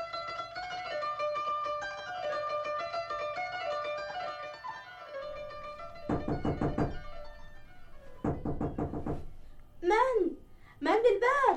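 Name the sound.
knocking on a door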